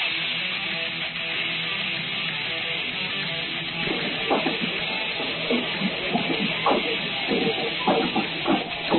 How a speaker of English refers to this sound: Oh, you hear the Raven Pep band in the background and the cheers from the homecoming throng here tonight.